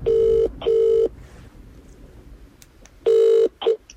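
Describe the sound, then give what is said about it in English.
A phone line ringing out with a double-burst ringback tone: two short steady buzzing rings, a pause, then a third ring, followed by a brief click as the call connects. “But, okay, I'm going to dial her.”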